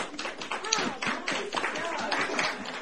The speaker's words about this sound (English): The students performed their plays for classmates and community members, including the staff of Ketchikan's local theater. They received a rowdy chorus of applause.